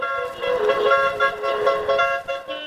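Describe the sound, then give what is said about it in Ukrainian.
Several car horns honk together in a sustained, overlapping blare from about fifteen cars decorated with Crimean Tatar national flags as a motorcade sets off on a rally for Crimean Tatar Flag Day. Tones layer and pulse steadily over nearly three seconds, loud, no talking. “і півтора десятка автомобілів, прикрашених кримсько-татарськими національними прапорами, вирушають у дорогу.”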